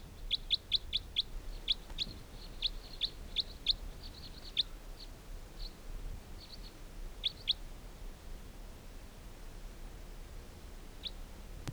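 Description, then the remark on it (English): Wild birds near a mist net holding 15 birds give quick, high-pitched chirps, first in rapid clusters and then thinning to scattered single calls, over a steady low background hiss with no talking. “There continue to be 15 birds in the net.”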